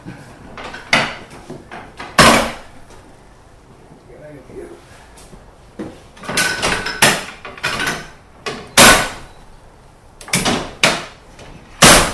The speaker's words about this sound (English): That's me just set the crossover back to normal and pulled the signal off for the engines to get back onto the main platform to be coupled to their train.